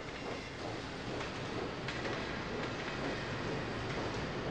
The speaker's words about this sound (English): The sound of Thomas's wheels has changed again. Thomas's wheels echo.